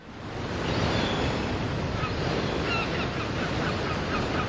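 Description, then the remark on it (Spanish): Sea waves break on the shore in a steady, loud wash of surf, with a few faint honking bird calls over the roar and no one speaking. “Al mar, nos vamos al mar.”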